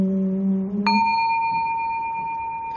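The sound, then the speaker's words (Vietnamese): A Buddhist temple bell is struck twice, first a low humming tone, then a brighter, higher strike that rings on with a long, steady, shimmering sustain, clear with no voices. “Ba nghiệp lắng thâm tình, gợi lòng theo tiếng chuông.”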